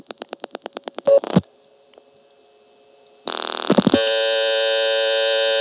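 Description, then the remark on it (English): A payphone's coin class-of-service tone on the line after dialing 0 from a coin phone: a quick run of buzzy electronic pulses, a short quiet line hiss, then a loud, harsh, steady tone that holds to the end. No one speaks. “She may have mistaken that tone for the coin tone. Let's dial 0 from this coin phone and I'll show you that.”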